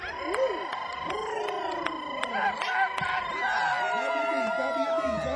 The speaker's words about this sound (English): These guys are out cheering you guys over here.